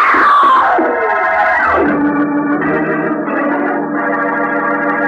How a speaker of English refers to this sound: As fire jets from the muzzle of Roger Barton's revolver, Patsy screams and falls.